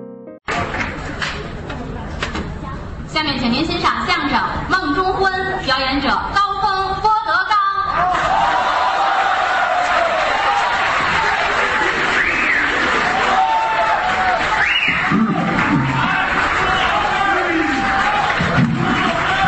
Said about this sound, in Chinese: 大家对您特别熟悉， 是 为什么您一上来报以热烈的掌声？ 为什么？ 观众朋友很久没见到您了，